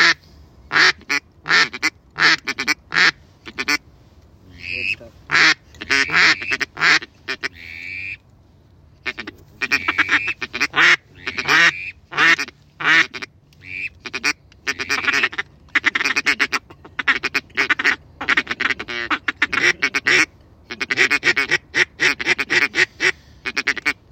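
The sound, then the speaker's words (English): Ducks quack loudly in rapid, overlapping bursts, a near-continuous chorus of harsh calls with only a brief lull partway through, heard from a blind during a duck hunt, with the ducks going to the middle of the hunters' spread. “This whole spread to keep them away from going to the middle, and they still go to the middle.”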